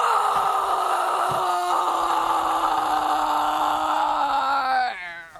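A huge grizzly bear lets out one long, loud, sustained roar outside a log cabin-style house at the edge of woods, holding steady for several seconds before dropping in pitch and trailing off abruptly. No one speaks.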